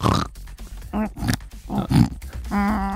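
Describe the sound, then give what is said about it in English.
A person imitates a pig with a run of short nasal grunts and snorting oinks, several bursts in quick succession, fairly loud, ending on a longer squealing oink. “What, because I'm a pig and I make you money?”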